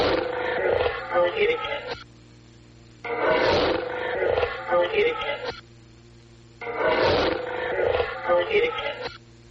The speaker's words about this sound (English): But you'll hear a growling and then a woman's voice directly after. A growling? Yes. Oh. And the growling is anomalous. It is an EVP. We didn't hear it at the time.